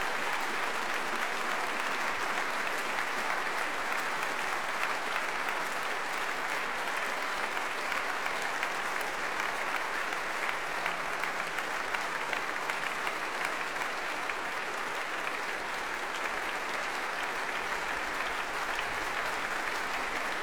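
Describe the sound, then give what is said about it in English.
Warm concert hall applause from a large audience at the Albert Hall after a folk night, a dense, steady wash of clapping that holds at an even, fairly loud level for about twenty seconds with no voices standing out. “Well, warm applause, as you can hear here at the Albert Hall, to a wonderfully broad and soul-searching folk night.”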